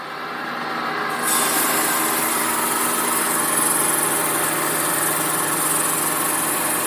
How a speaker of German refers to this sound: Mit Wasser wird es dann betrieben, da wird Wasser eingespritzt, oder? Es wird mit Wasser gekühlt. Mhm. Und es ist eine recht unangenehme und dreckige Arbeit. Mhm. Bis man dann aus dem Gesteinsstück sozusagen dieses kleine Klötzchen rausgesägt hat.